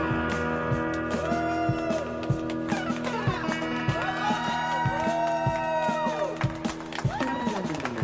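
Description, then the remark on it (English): A crowd-noise sound effect: a large crowd cheers steadily, a dense roar of voices with scattered whoops and rising whistles riding on top, sounding loud and somewhat echoey throughout. “Crowd noise.”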